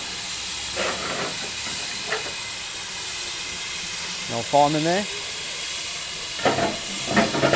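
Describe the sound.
A steam locomotive on a train journey from Kidderminster to Bewdley hisses steadily, a broad, continuous rush of steam that fills the whole clip, while a crew member in the engine handles the coal. A man speaks briefly over it and a few faint knocks come and go.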